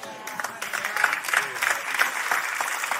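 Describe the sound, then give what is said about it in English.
Scattered applause from an audience during a sermon, many hands clapping at a moderate, fairly steady level across the few seconds, dying out, with a faint crowd murmur and no clear speech over it. “My applause is dying out.”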